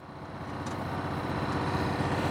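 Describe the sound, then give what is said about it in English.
A golf cart's small engine runs steadily with a low, rumbling drone and a faint higher whine as a maintenance man drives it around a school spraying for weeds; no one speaks. “we noticed a maintenance man driving a golf cart around the school spraying for weeds.”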